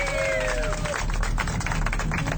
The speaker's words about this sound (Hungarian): Tapsvihar! Örjön!